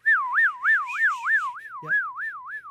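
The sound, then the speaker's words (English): A person whistles a siren imitation, the pitch swooping up and down in a quick, steady wail about three times a second. The whistle is clear, with no talking. “By the way, me doing my siren whistle.”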